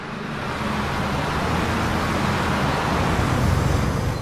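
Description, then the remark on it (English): A bus pulls up at a bus shelter in snowy weather, its heavy engine rumbling loudly and steadily over a wash of roadway noise, growing slightly stronger toward the end. No one speaks. “moves forward as a bus arrives.”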